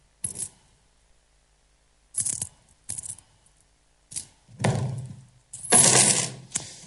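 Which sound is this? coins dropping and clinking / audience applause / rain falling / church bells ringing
coins dropping and clinking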